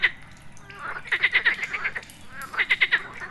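Frogs croak inside a cool cave, where they jump from stone to stone, their calls coming in quick bursts of about four short, chirpy, mid-high notes, repeated twice over a low, steady background hiss.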